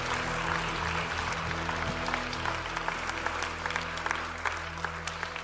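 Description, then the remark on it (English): An audience at a 10 o'clock church service applauds a team steadily, a dense wash of many hands clapping at once, full, with a low hum beneath and no voices standing out. “Give them a wonderful round of applause and thanks.”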